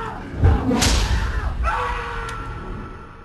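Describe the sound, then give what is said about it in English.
A heavy door on a timer slams shut at 3 o'clock with a deep, booming thud and a sharp crack, followed by a lingering metallic ring and reverberant rumble fading out over a few seconds. “Door was on a timer. It was unlocked until 3 o'clock. Then it slammed shut.”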